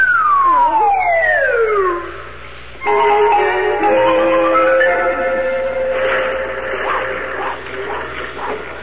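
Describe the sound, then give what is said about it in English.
A telephone rings loudly and steadily at Santa Claus's workshop with a shimmering, multi-toned jangle, preceded by a falling whistle-like glide. No one speaks. “Oh, dear, that phone is driving me distracted.”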